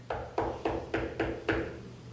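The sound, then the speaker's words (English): Six firm knocks on a door in a quick, steady rhythm, each one sharp with a short hollow ring. They're fairly loud, with nothing else in the background. “here comes somebody knocking on the door”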